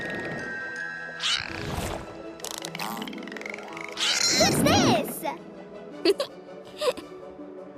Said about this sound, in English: That's Viva. She's a vaquita.